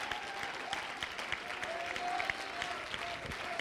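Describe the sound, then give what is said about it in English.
An audience claps hands together to give God glory and praise in a sustained, dense burst of applause, steady and fairly loud throughout, with faint crowd voices and a few whoops mixed in. “One more time, shall we clap our hands and give God all the glory and praise.”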